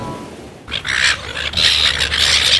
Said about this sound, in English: Oh, get out of it, bloody seagulls.